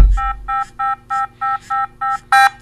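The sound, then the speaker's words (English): An electronic device beeps a separation alert after Bluetooth on the paired cell phone is turned off: eight steady, evenly spaced tones in a quick repeating rhythm, clear, the last one louder and harsher than the rest. “And this is going to beep telling you that you have now separated from your cell phone and you better go back and get it.”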